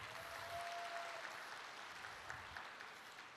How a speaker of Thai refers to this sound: ปรบมือให้ท่านประธานหน่อยสิครับ